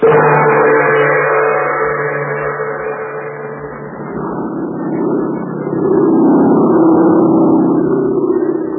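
A steady, loud droning of an airplane engine as a plane flies through the night over China in the radio drama Terry and the Pirates. It has a continuous low hum and rough whirring overtones that dip slightly midway and then swell again, with no voices.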